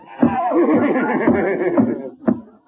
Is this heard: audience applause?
no